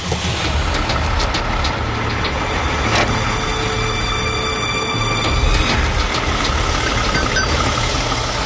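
truck engine running

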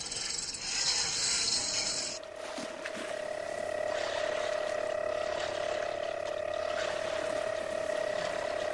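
boat engine starting up

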